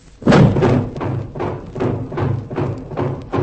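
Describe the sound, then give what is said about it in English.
Heavy steel shutters slam shut over all the doors and windows one after another, a rapid series of about seven loud, booming metallic thuds at a steady rhythm, resonant, with no voices. “Steel shutters over all the doors and windows.”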